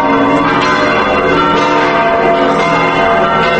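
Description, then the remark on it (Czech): Large bells of the Cathedral Church in Belgrade, Serbia, peal continuously and loudly at 14:15, several overlapping tones ringing together with a dense, resonant wash and no voices, marking the election of a new patriarch of the Serbian Orthodox Church. “Tačno u 14.15 zvona Saborne crkve u Beogradu označila su da je u desetak metara udaljenoj zgradi Patrijaršije upravo izabran novi poglavar Srpske pravoslavne crkve.”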